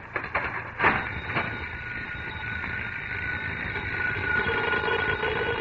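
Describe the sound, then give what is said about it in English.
A doorbell rings steadily for several seconds, a shrill, buzzing electric tone that holds without a break, preceded by a few sharp clicks at the start. “Why doesn't somebody answer the door?”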